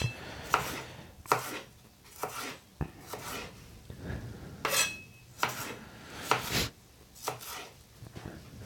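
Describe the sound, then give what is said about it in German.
A knife slices a red bell pepper into strips on a cutting board, about a dozen crisp, sharp chops in an uneven rhythm, with faint scraping between strokes and no talking. “So, jetzt kommt meine rote Paprika. Auch wieder Streifen.”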